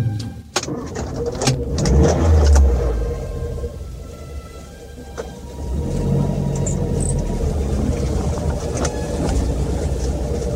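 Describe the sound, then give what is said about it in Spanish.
A car engine starts with a few sharp clicks and a low rumbling surge, then settles into a steady engine drone as the car pulls away, heading for the beach, with faint birdsong in the background. “Así que arrancaron el coche y se dirigieron a la playa.”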